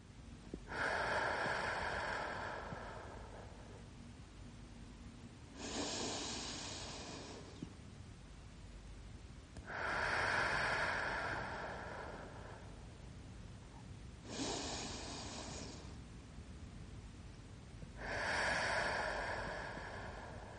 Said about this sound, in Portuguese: expira profundamente, enchendo o peito de ar na inspiração e esvaziando o peito na expiração.